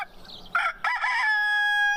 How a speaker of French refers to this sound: C'est alors que le coq, réveillé par tout ce tintamarre, lança un plein gosier, un cocorico retentissant.